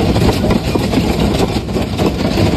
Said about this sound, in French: Ce bruit, c'est celui de la grêle.